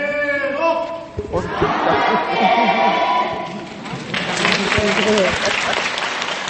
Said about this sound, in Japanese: そう、こんな風にですね、あの声援を送りながら会場一体となって発表が行われたんですけれども、これはまあ女性部の活動を発表する方に向けたエール、頑張れーというふうに言われておりました。